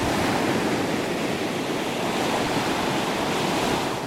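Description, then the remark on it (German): Steady Baltic Sea surf washes continuously onto a shore at Niendorf or Grömitz, a broad rushing roar with no distinct breaks between waves, fairly loud, with no voices present. “Abschalten bei Meeresrauschen in Niendorf oder Grömitz, kein Problem.”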